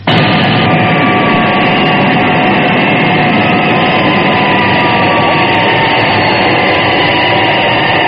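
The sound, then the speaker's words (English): A loud, steady jet engine roar fills the whole stretch as Thunderbird 2 comes in to land on the end of runway 29 at London Airport, a continuous rumble with a high whine and no voices. “FAB, touching down on end of 29.”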